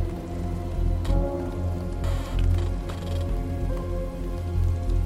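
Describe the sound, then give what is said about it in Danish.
Water drips steadily from thawing snow in the trees of a forest, a soft patter of irregular drops with a few sharper taps, over a low steady rumble with no one speaking. “I hører langt i sådan ude, hvordan det dråber. For det tøende sne drypper af træerne.”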